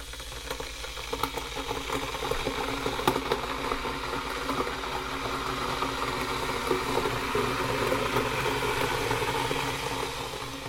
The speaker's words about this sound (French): La bouilloire. Faut mettre de l'eau.